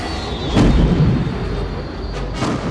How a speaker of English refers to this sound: The paired torpedoes blasted through the conduit, causing a shockwave that rocked the fighter. The glare from the explosion gave Wedge one last glance at the complete destruction of the target zone.